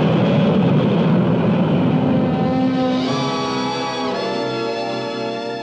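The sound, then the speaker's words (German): A steady, loud roar of jet engines fills the space, with a broad rumble and rising whining tones layered on top: an Eastern Whisper jet airliner climbing to cruising altitude, heard in the cabin with the jets behind. “The Whisper jet climbs to smooth cruising altitude faster than any other jet airliner.”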